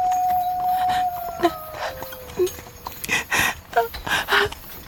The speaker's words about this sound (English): That howl, that wolf was close.